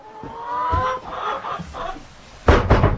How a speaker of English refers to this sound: these ones here are the chickens Mr. Sowerby raised for slaughter